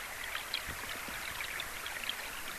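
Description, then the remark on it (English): A small creek flows steadily in a quiet spot, a continuous bright babble of water with little splashes and gurgles sparkling through it, no voices present. “in this quiet spot, you just sit down, you put your headphones on, and there's nothing else but you in this little creek in this amazing place.”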